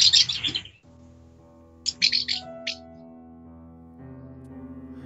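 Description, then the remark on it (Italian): Real swallows chirp overhead outdoors in the early morning, in two short bursts of high, rapid twittering, with a quiet gap between them and a steady low hum running underneath throughout. “I suoni che sentite sono veramente le rondini che ci sono sopra la Francesca, quindi è natura vera”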